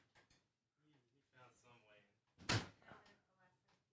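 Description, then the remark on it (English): A door is opened partway through with a single loud clunk as someone comes back in, set amid quiet conversation that continues before and after it. “Someone opened the door and he came back in.”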